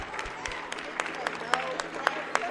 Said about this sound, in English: Still, the play wraps up with some polite applause.